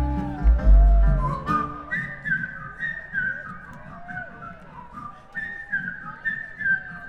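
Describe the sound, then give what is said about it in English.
A bright whistled melody by a performer carries a steady, jaunty tune from start to finish, with a low thump near the start and soft accompaniment underneath; no one speaks. “the whistling of ….”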